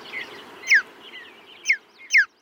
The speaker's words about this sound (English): After listening through hours of sound archives, they found a bird chirp that they really liked, the mountain bluebird. There was a richness to it, and so we isolated just one chirp of this bird in the background.